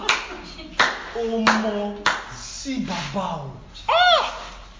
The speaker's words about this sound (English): Why are you clapping? Why are you clapping?